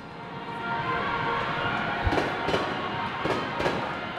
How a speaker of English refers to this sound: I'm standing in the main railway station of Zaporizhia, Ukraine. It's an industrial town in the southeast known for its steel production, and it's about 100 miles from the front lines of the war in the Donbas region and 120 miles from Crimea.